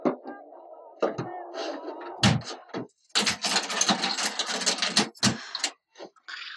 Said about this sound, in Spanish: El guardia cierra la puerta y vuelve a su lugar de vigilancia.